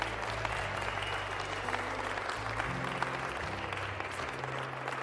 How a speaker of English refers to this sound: Why don't you give the Lord a hand clap? Amen.